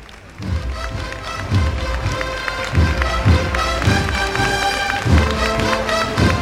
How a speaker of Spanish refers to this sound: Ya se va acercando poco a poco. Aquí llega la banda. Pantalón azul, chaqueta negra, la gorra de plato.